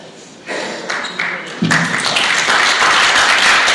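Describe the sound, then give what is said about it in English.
Audience applause at a meeting, thanking the participants of a debate, that starts softly with a few scattered claps, then swells at about 1.6 seconds into full, dense clapping that holds steady and loud to the end. “Let's give it another round of applause, guys.”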